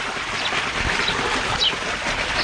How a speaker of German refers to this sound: Früh am Morgen in Marokkos Tal der Rosen, südöstlich vom Hohen Atlas. Am Fuß schneebedeckter Berge plätschern Bäche durch das kühle Tal.